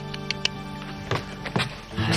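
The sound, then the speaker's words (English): A horse's hooves clip-clop in a few uneven, slowing steps, moderately loud, over a steady low humming background as the horse and its rider arrive at a doctor's place and come to a stop. “Drew and his horse arrive at the doctor's place.”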